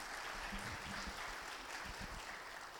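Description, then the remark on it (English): Steady, dense applause from a church audience at Maywood Baptist Church, welcoming their new preacher and his wife. A continuous wash of many hands clapping at an even level throughout, with no pauses or voices standing out. “Just keep on applauding.”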